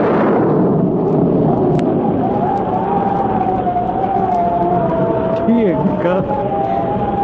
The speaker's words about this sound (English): Would that possibly be thunder? It sure sounds like a storm coming up,